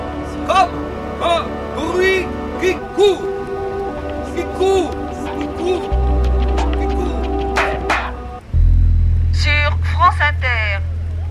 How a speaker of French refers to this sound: Mais la pluie, c'est bon signe, il paraît, dans un processus de désenvoûtement.